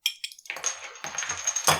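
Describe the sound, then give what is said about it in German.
A bottle of non-carbonated iced tea, bought in Dresden, is opened: a few quick plastic clicks, then a gritty crackling scrape as the cap twists free, with no fizz or hiss afterward. “Okay, ich tue es mal öffnen.”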